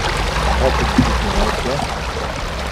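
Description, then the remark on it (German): A brook flows steadily beneath a plank that three people are balancing across, a continuous rush of water with muffled voices faintly murmuring beneath it. “Jetzt balancieren die 3 über ein Brett, über einen Bach.”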